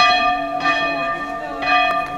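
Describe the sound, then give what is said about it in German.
The chapel bell of the monastery on the Höfensberg rings again after 20 years, repaired by a brother after its linkage was broken, with steady, resonant strokes, two clear strikes about a second apart, each leaving a long shimmering hum, fairly loud. “Schon beim Aufstieg zum Kloster auf dem Höfensberg hören wir die Glocke und oben freut sich der werkelnde Bruder, dass er sie wieder zum Läuten gebracht hat, nach 20 Jahren.”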